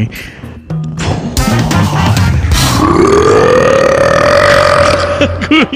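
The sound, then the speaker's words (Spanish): A long, loud burp, drawn out for several seconds with a rising, wavering pitch, shaped into the spoken words "Radio Manini", preceded by a few short throaty grunts. “A ver, pedí Radio Manini en eructo.”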